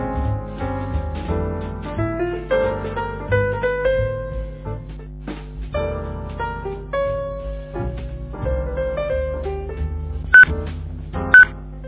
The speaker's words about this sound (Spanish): Buenas noches, aquí estamos con el pitido de las 20 horas, muy a tiempo.